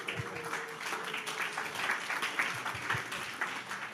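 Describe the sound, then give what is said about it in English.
Steady audience applause after the speaker announces he is going to be a father again, a dense wash of many hands clapping at an even level throughout, moderately loud with no voices standing out. “It's funny, when it was my first kid, the applause was much louder.”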